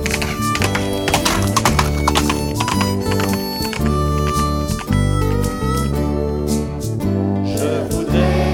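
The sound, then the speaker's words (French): Horse hooves clip-clop in a steady rhythm, with whinnying mixed in, all loud and dense over a continuous tonal backdrop that sounds like music. “voudrais partir sur mon cheval.”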